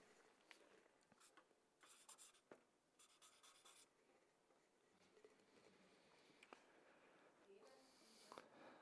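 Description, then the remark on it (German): A pen scratches across paper in quick, irregular bursts of strokes as a list of words is written, with brief pauses between them and soft murmured speech faintly in the background. “Seelenfrieden, jawohl, das bringe ich nirgends mehr hin, muss man umblättern.”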